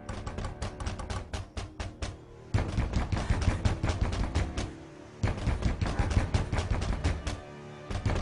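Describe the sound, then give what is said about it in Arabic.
Loud, rapid banging on a door at night, a dense run of hard knocks that keeps going for several seconds, with two brief lulls, over a low sustained rumble. No one speaks. “من دق الباب واضح أنهم جاءوا ليصطادوا المختار.”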